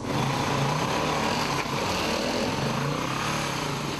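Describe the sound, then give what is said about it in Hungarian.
An off-road motorcycle engine drones loudly and continuously as it is ridden in a protected forest area near Salgótarján, Hungary, its buzzy pitch holding fairly steady with a brief dip partway through, and no voices are heard. “Motorosokat és kvadosokat ellenőriztek ma a rendőrök Salgótarjánban és környékén, elsősorban a kirándulóhelyeken és az erdőkben.”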